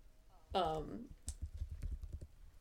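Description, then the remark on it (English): A brief voiced sound opens, then a rapid run of about a dozen sharp clicks of typing on a computer keyboard as someone searches online, uneven in rhythm and moderately loud. “Everyone enjoys the ASMR from my typing, also.”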